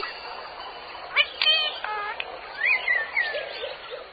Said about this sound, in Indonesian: Alhamdulillah, dengan 2 mata, kita bisa melihat makhluk ciptaan Allah yang indah. Contohnya, seperti burung-burung yang berada di sini.